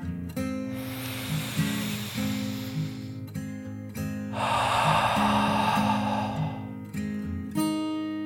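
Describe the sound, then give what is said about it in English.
A slow, deep breath of fresh morning air drawn in and then let out, two long airy whooshes of a few seconds each, the exhale fuller and louder, over a soft bed of sustained musical tones. “Joining Dragon in the moment, the little yellow tractor took a deep dragon breath of the fresh morning air, in and out.”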